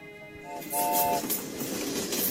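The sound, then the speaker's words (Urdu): A train begins to move as its brake is released for a quiz show contestant seated in it, with steady tonal horn-like hums early on, then a rising mechanical rumble and hiss as it gets underway, loud and close with no talking. “Train آپ کے حوالے ہے, بریک آپ کے پاس ہے. بریک چھوڑیے, گاڑی چلائیے.”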